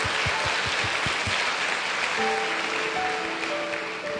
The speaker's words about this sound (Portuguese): Vamos dar uma salva de palmas, assim.